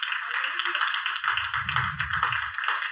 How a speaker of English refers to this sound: Clap your hands real good right there. Clap your hands real good right there.